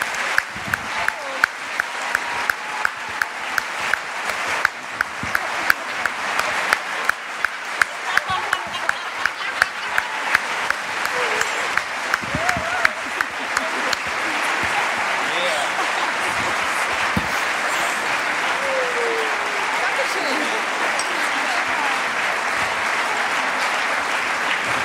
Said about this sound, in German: Nicht aufhören zu klatschen.